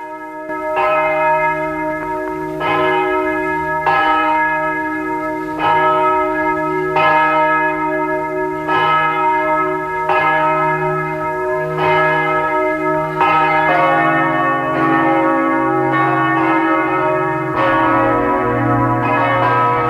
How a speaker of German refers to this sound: Es ist 12 Uhr, Sie hören die Glocken der Pfarrkirche von Lackenbach im Burgenland.